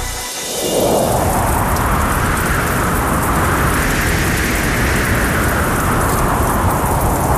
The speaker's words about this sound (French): La tempête qui s'abat dans l'ouest de la France en cette nuit de décembre 1370 paraît aussi infranchissable qu'un rempart.